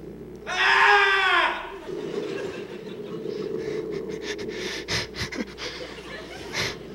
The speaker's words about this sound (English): And now a love and radio scream.